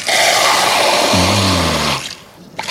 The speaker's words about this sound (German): Ja, da hört man es auch. Das ist dieses Sodawasser, was man sich da aus diesen Flaschen spritzen kann.